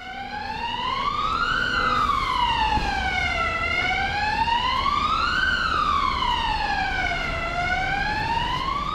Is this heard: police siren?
yes